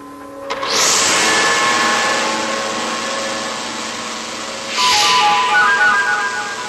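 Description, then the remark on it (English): A lawnmower engine that is being worked on starts up and runs with a loud, steady buzzing drone, then surges briefly louder near the end. No one speaks. “Meanwhile, Krenna is working on a lawnmower while Lucky decides to make himself a little more mechanically inclined.”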